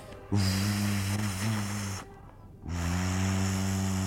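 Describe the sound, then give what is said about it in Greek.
A deep steamship whistle sounds as the ship departs, in two long, loud blasts, the first about two seconds, then a short gap before the second, a steady low booming tone with a breathy hiss. “Ξέρεις, μικρό μου, πως σφυράει ένα βαπόρι που σε ξεριζώνει και φεύγει. Όχι. Να, σφυράει έτσι.”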